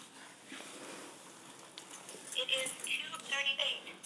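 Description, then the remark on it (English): Keys on a keychain jangle as someone gets their keys to show the building's doors, starting softly and building into a burst of bright, irregular metallic clinks and rattles over the last couple of seconds. “Right, now I'm going to get my keys and show you some of the building's doors.”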